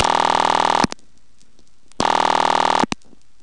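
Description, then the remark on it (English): A loud, buzzy telephone ring as heard inside a telephone central office, recorded at a phone museum in Seattle, sounds in two bursts of under a second each, separated by a pause, with a short sharp click after each burst. Nobody speaks. “And here's the way the ring sounds when you're right in the central office.”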